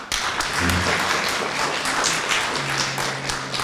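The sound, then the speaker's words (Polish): Audience applause at a forum gathering, welcoming a professor and all attendees: a dense, steady wash of many hands clapping, loud and sustained for the whole few seconds, with a faint low murmur of voices underneath. “I dla wszystkich państwa gorące brawa.”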